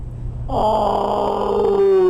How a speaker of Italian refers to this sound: Uno è di una tigre malese che loro chiamano? Un maschio, un esemplare maschio che si chiama Gara, sentiamolo.